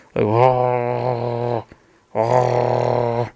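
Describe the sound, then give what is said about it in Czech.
A human voice imitates a wolf's growl with two sustained, low, rasping rumbles, the first about a second and a half long, then a short pause before a slightly shorter second growl. “Nebo vlci taky můžou vrčet, že jo, jak jsme si říkali, vrč.”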